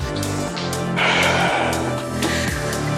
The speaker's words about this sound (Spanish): Y respira. Voy a respirar yo también. Me callo un poquito y seguimos juntos.